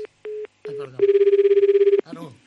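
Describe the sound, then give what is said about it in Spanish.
A telephone rings unanswered: two short tones, then a long, rapidly warbling electronic ring lasting about a second, with brief bits of voice before and after. “¿Quieres hacer el favor de contestar una puñetera vez?”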